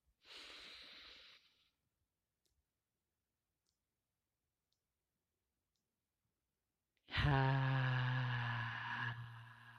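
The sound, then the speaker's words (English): During a conscious breathing exercise, a soft breathy sound, several seconds of silence, then a loud, drawn-out exhale through the mouth with a hoarse, slightly voiced sighing tone lasting about two and a half seconds. “and then let it out slowly from the mouth.”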